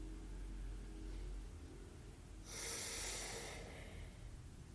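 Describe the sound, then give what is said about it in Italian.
A single deep, breathy exhale, the third in a sequence, fully empties the air from the lungs. It pushes air out for about a second as a soft rushing hiss, with quiet stillness before and after. “Terzo espiro, svuoto completamente l'aria dai polmoni.”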